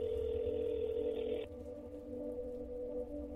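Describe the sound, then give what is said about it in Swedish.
A steady electronic telephone tone hums on without pause, fairly quiet, with a faint brighter layer dropping away halfway through, as parents call their son and the call goes unanswered. No voices are heard. “De försöker ringa honom, men han svarar inte.”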